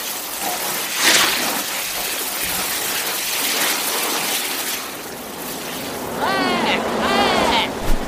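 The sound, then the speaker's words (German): A steady rush of spraying water pours down like a heavy shower for several seconds, with a brief surge early on and warbling squeaky tones near the end. “Und am Ende riesige Rüsselregendusche.”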